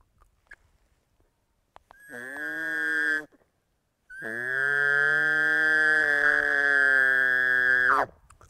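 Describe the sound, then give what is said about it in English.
Two imitated bugle calls blown through a bugle tube: a short call, then a longer sustained one. Each is a loud, high whistling note over a deep, buzzing growl from lips buzzed inside the tube as the high note is hit, with no talking. “Right as you hit that high note, you buzz your lips in the tube to get that deep sound.”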